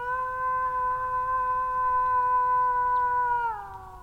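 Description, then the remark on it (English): A person in Germany imitates a wolf howl to draw a wolf out of the forest: one long, steady, loud tone held for several seconds, then sliding downward in pitch as it fades, over a faint low rumble. “Wolf could appear any moment to reply or just check out where that howl is coming from.”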